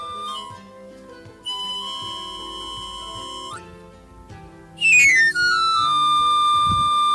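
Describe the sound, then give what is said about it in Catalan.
A knife sharpener's pan flute plays its tune: bright, shrill whistled notes, a couple of long held tones, then a quick sliding run up and down the scale, with no voices. “Un altre cop aquesta sintonia d'afilador.”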